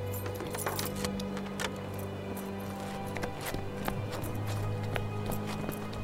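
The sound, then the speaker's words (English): A set of keys jangles and clinks as they are put down, with scattered short metallic taps over a steady low hum in the background. “Look, I'll leave the keys here.”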